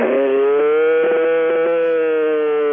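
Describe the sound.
A boy imitates a cow's moo with his voice, his championship cow call from a mooing contest at the Wisconsin State Fair: one long, steady, loud bellowing call held for nearly three seconds, with a slight wavering partway through.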